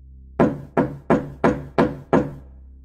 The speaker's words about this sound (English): The man then started to loudly bang on my door.